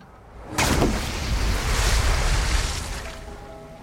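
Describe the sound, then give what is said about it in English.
A trunk weighted with stones, dropped from a jetty, hits river water with a sudden loud splash, followed by several seconds of churning, rushing water that slowly settles. No voices are heard. “He places stones into the trunk and from the jetty above drops it into the river.”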